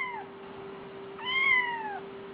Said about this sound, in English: This is the sound that still haunts me. A lost, abandoned kitten. It comes from just outside where I live.